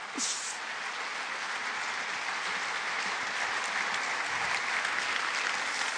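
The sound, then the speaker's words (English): Steady, dense applause from an audience fills the whole stretch at an even level, a broad hiss of many hands clapping together after a song, with no voices rising above it. “Yeah, I can't believe you're clapping at that song, but I mean, hopefully you're clapping because it's like, whoa, there's a lot of truth in that song.”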